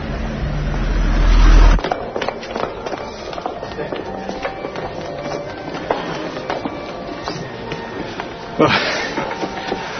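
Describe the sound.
Road traffic noise: a loud rumble of a vehicle for the first couple of seconds, then a steady din of passing traffic with scattered clatter and muffled, indistinct voices.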